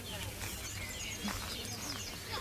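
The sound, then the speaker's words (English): Several birds chirp and sing at once in a busy, overlapping chorus in a garden, with a steady low hum of background noise underneath. “how you can tell them apart when they're all singing away together”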